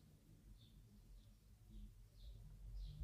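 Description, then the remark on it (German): Faint, distant birdsong: a handful of short high chirps recurring at a slow, steady pace over a low rumbling background, with no one speaking. “Du hörst Vögel singen in der Ferne.”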